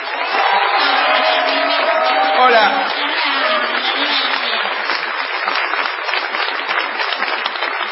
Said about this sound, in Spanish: No menos afectada ha de ser la ovación tributada a ….